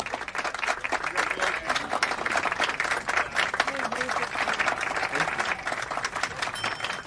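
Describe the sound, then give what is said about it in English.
Office colleagues stand and applaud together, a steady wash of dense clapping that holds at an even volume for several seconds, with faint voices murmuring underneath. “their colleagues all stand and applaud.”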